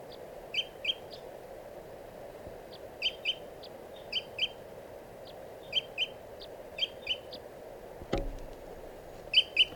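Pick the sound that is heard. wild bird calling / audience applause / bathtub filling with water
wild bird calling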